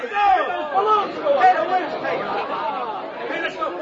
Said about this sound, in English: The crowd is growing wild.